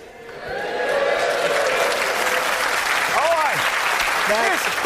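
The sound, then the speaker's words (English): An audience breaks into loud, sustained clapping for the Ulster fry, a food being discussed, swelling within the first second and holding steady, with a few rising whoops and voices cutting through the applause. “The bacon, he said, that you're clapping takes half an hour off your life.”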